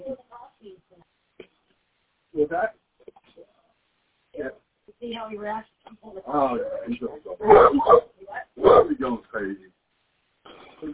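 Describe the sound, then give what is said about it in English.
A dog barks at a person in several sharp, uneven bursts, with the loudest barks clustered toward the end, and quieter sounds in the gaps between them. “Girls down on the path looking like this because he's like barking at me.”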